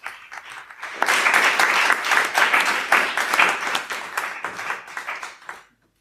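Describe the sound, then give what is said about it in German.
Audience applause at an award ceremony as a team is called up to receive certificates: a few scattered claps swell quickly into sustained, dense clapping from a crowd, then taper off and stop abruptly near the end. “ein ganz großer Applaus schon mal.”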